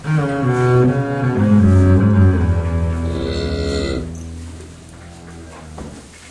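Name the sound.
cows mooing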